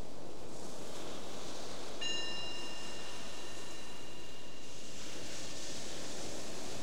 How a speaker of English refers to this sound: So the bell is your invitation, the reminder to just be here.